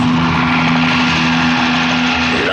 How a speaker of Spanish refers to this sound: un gran helicóptero a velocidad de RM se aproxima a la costa y a la playa donde está volcado el avión.